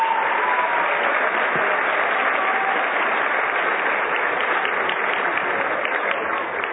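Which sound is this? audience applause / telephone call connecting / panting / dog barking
audience applause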